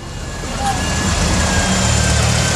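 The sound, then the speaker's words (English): Steady, loud rumble of road traffic in Lebanon heading away from the besieged capital, with engines of cars and heavy trucks droning and swelling slightly over a couple of seconds, a faint high tone running through it. “Once inside Lebanon, we find there's a lot more traffic heading away from the besieged capital than heading towards it.”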